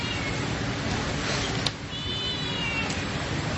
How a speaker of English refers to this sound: The cat is here and is ready to receive any attention that you may wish to bestow upon it.